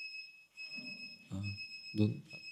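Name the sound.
digital alarm clock beeping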